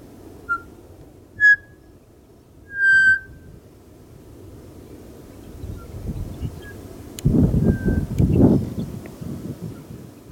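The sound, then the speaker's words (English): A pied butcherbird, an Australian species, sings three clear, flute-like whistled notes, rising and spaced apart, then a fainter bird answers in call and response over a low rumble of wind noise. “So I wanted to play a little pied butcher bird.”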